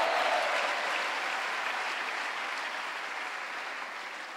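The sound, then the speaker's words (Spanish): An audience applauds the Lord steadily, a dense wash of many hands clapping that holds loud and even before easing slightly toward the end, with no voices standing out. “Dámele el aplauso al Señor.”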